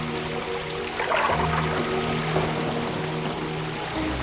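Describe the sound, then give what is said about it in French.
Water flows and rushes in a steady, continuous wash across a flooded landscape, with a low, even droning hum running underneath and no voices. “À part le bruit de l'eau, le silence.”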